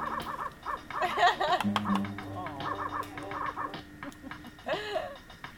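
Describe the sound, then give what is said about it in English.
Rapid, repeated barking bursts from a dog with a yappy, quacking quality, loud, running almost continuously over a low sustained hum. “Sounds like a rapping dog.”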